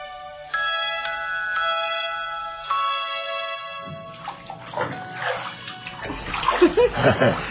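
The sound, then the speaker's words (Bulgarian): Water splashes and sloshes in irregular bursts as someone is bathed in warm water in a barrel, rising in intensity toward the end; a sustained musical tone plays before the splashing begins. “Има топла вода в бъчвата. Искаш ли да те окъпя?”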